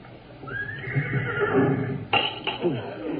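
horse neighing

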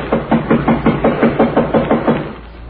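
knocking on a door

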